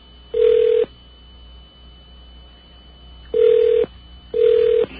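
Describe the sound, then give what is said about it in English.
Ringback tone of a phone call placed after pressing 2 in an automated phone menu: three loud, steady electronic buzzes at a mid pitch, each about half a second long, with longer silent gaps between them and no voices. “It is ringing, but we'll go to another recording.”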